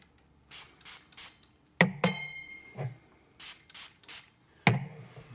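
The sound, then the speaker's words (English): Several short, hissing bursts from an atomizer spraying absinthe into a glass, coming in quick pairs, with a few sharp clinks and knocks of the glass being handled in between. No one speaks. “Spraying absinthe your drink. All over the place.”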